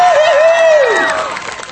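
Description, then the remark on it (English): A crowd at a live show gives a 10 out of 10 round of applause, bursting into loud, steady clapping with cheering, and a high sustained whoop rises above it before sliding downward. The clapping and shouting roar on, easing slightly toward the end. “And what about a 10 out of 10 round of applause?”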